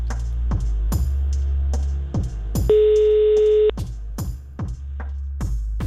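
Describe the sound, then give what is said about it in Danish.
A single steady telephone ringback tone of an outgoing call to the police sounds for about a second, loud and clear, over a backdrop of rhythmic music with sharp repeating beats. “Først ringer vi til politiet.”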